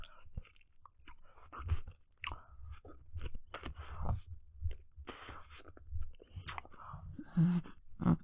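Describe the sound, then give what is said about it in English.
Mouth sounds of biting and chewing on a hard object, with repeated wet, crunchy bites in an uneven rhythm, loud, with no talking. “have to consciously choose to not like chew on this. But I can just barely fit one bowl in my mouth and it makes my jaw hurt.”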